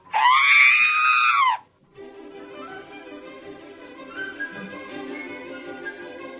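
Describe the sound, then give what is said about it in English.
The R2-D2 droid sound: a loud, high-pitched robotic squeal lasting about a second and a half, followed by a quieter stretch of warbling electronic beeps and chirps, made from a sound engineer's voice doing baby talk mixed with synthesizer tones. “it's his voice doing baby talk, like you'd talk to an infant, mixed with electronic sounds from a synthesizer, and he played with those enough and then created R2-D2.”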